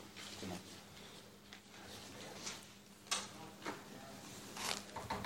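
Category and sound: household object, door being opened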